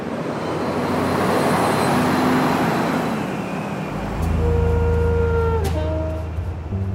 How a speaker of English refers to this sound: The traffic is right at the eye level of where my balcony is. It is so loud that sometimes she can't hear herself with the rumbling of the trucks going across the highway.